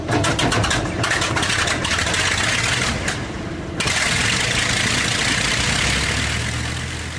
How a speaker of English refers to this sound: Some kind of radial engine airplane. You knew it was radial. It's a Bristol Hercules, which was a supercharged 14-cylinder, two-row radial aircraft engine